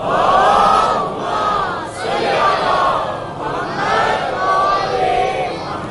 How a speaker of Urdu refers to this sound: اب اگر حدیث سننا چاہتے ہیں اکثریت تاجروں کی, اگر بلند آواز میں درود پڑے محمد و آل محمد. حدیث اہم ہے, اس سے بلند آواز کی صلوات پڑھیں گے تو پھر سناؤں گا.